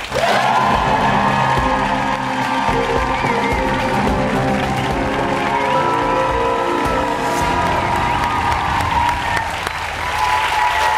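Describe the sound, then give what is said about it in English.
A studio audience applauds loudly and steadily for about eleven seconds, with scattered cheers and whoops rising above the dense clapping, as talk-show guest Will Packer, an Emmy-nominated producer and filmmaker, is welcomed. “What a great crowd, welcome, man.”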